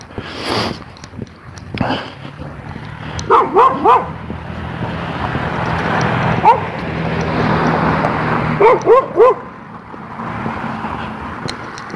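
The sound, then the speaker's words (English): A red dog on the other side of a fence barks in short clusters of three, pausing between bursts, over a steady hum of traffic-like background noise. “A red dog on the other side of the fence.”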